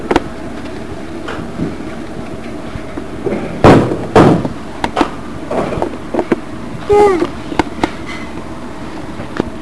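door closing

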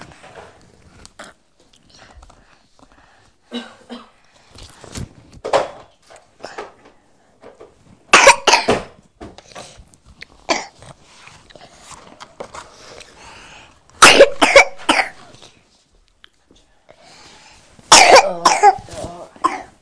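child coughing

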